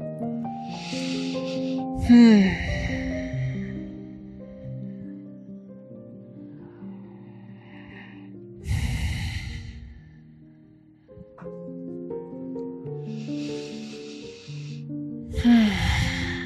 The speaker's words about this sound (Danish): Vi tager 5 gode, dybe vejrtrækninger i Setu Bandha Samangasana.